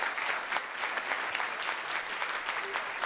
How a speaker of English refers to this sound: From the past, they're Vietnam veterans, and several of them are with us today. Is that right? Where are they? Round of applause. Big round.